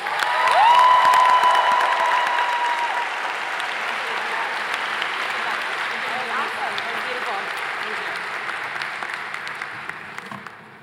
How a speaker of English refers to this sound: Please, put your hands together and help me welcome the 2023 Johnson student speaker